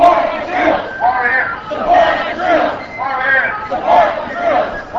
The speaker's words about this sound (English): A group led by the UW-Madison College Republicans marched by carrying signs, shouting slogans, and singing songs.